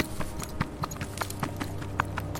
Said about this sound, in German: Ihr hört ein Rascheln und dann Schritte, die schnell von euch weghuschen.